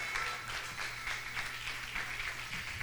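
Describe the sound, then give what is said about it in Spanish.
An audience applauds to God for the speaker's three models, many hands clapping in a dense, continuous patter that stays fairly loud for the whole few seconds, with no voices over it. “¿Le puedo dar un aplauso a Dios por mis 3 modelos, por favor?”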